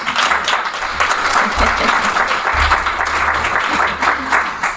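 clapping applause

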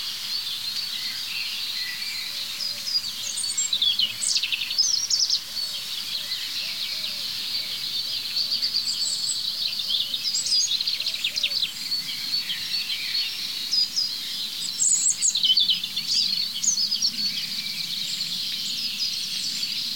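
european robin singing

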